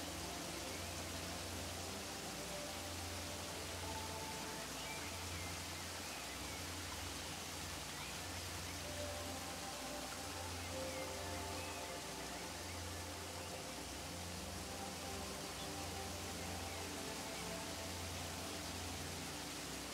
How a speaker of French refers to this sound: Vous laissez le grondement de la chute d'eau vous débarrasser de vos soucis, de vos doutes, des pensées parasites qui vous envahissent parfois.